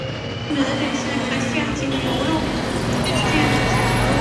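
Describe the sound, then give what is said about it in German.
A steady, loud airplane cabin drone on a flight to Moscow fills the whole stretch, a deep engine hum layered with a constant airy rush that never lets up. “Gerade mal 2 Tage später saß ich also schon wieder in einem Flugzeug mit Kurs auf Moskau.”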